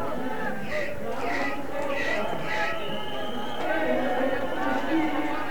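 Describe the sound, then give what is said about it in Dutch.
Regular hoof clops from many arriving horses beat out a steady rhythm through a dense, noisy crowd at a street scene with police and squatters, with voices murmuring and chattering throughout. “Er komen allemaal paarden.”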